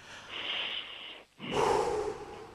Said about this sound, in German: Sollen wir nochmal gemeinsam richtig tief durchatmen? Ja. Okay, ich zähle bis 3 und dann atmen wir gemeinsam durch, okay? 1, 2, 3.